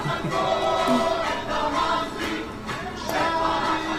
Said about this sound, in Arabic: كان هذا هتاف من الهتافات التي تقال في التحرير. ارفع راسك فوق انت مصري.